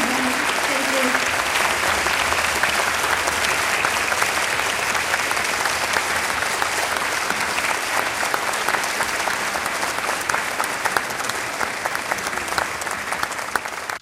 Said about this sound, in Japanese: ステージ上、タンゴ吹奏楽団の皆さん、そして在日米陸軍軍楽団の皆さんです。本日は誠にありがとうございました。最後にもう一度大きな拍手をお願いいたします。